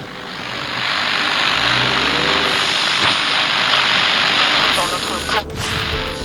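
Steady, loud engine and road hum fills the inside of a moving car carrying two men who sit in silence, with a sharp click near the end as one of them switches on the radio and faint sound begins.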